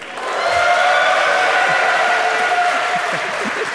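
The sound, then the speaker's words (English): Recorded audience applause from a show's roll-in intro package, a dense, steady wash of many hands clapping that swells in quickly and stays loud throughout, with faint crowd voices mixed in. “I wanted to wait until your applause was fully gone. I wanted to know that those claps were for me.”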